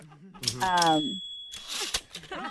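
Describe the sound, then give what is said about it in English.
Typewriter keys clatter in two quick bursts, with a bright bell-like ding ringing between them, as someone types up a statement being told to them. A voice talks over the typing. “Oh, yeah, it is a typewriter. I'm just writing down what you're telling me.”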